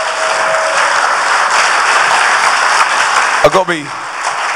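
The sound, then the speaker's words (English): An audience applauds the kids who danced, a dense, sustained wash of clapping that holds at an even loudness throughout, with a brief shout cutting through near the end. “Give the kids a round of applause for getting down here.”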